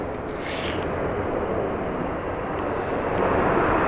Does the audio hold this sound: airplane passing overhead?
yes